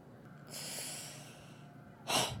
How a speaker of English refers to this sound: He paused in his telling, settling back and breathing deep.